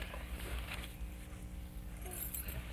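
household object, keys jangling

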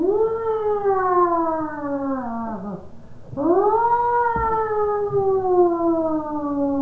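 vehicle, ambulance siren

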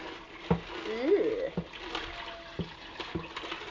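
household object, water poured

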